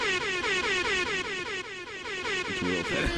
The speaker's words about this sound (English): You can give me some air horns and some applause.